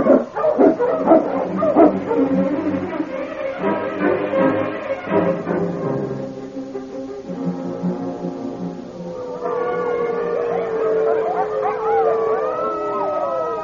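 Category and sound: animal, wolves howling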